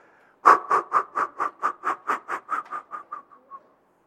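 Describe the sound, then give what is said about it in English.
About fourteen sharp, forceful breath exhalations puffed out in a rapid steady rhythm, loud at first, then tapering off as the air runs out; a percussive breathing exercise to empty the lungs. No talking. “I want you to get rid of as much air out of your lungs in a second”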